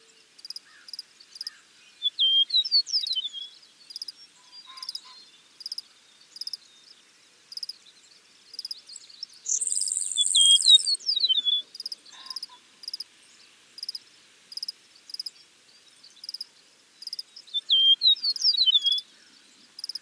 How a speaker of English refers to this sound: Western meadowlarks have flute-like, liquidy songs, whereas the songs of eastern meadowlarks are relatively simple and have been described as slurred and whistle-like. Here's an eastern meadowlark singing in Minnesota.